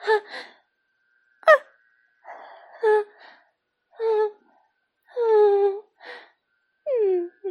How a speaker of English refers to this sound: now I'm laying naked and bare on my bed. Twitching and and panting and moaning.